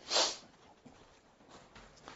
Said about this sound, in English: And I hate to blow my nose in the pulpit because you blow it right in the mic. You can't get away from it. It's just there.